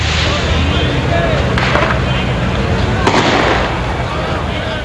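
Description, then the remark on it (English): Fireworks thrown by dispersing supporters of Nawaz Sharif bang and crackle amid a loud, dense crowd roar, with sharp bursts standing out around the second and third seconds as the noisy outdoor din continues. “Nawaz Sharif's supporters dispersed, throwing fireworks.”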